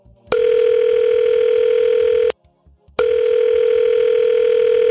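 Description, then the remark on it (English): A phone line rings out as a call is placed to a friend, with two long, steady electronic ringback tones, each about two seconds, separated by a brief pause. The tone is loud, clear and unchanging in pitch, with no talking. “Okay, let's get your phone a friend on the line.”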